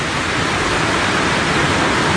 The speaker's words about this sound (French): Le bruit de la pluie est tel qu'on ne peut pas arriver à s'entendre. Alors on attend que ça se calme un peu.